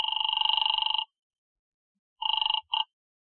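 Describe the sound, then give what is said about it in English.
A telephone rings over the line after a number is dialed, with a buzzy, warbling electronic tone: one long ring of about a second, a pause, then a shorter ring that breaks off abruptly. No voices. “I dialed it and waited.”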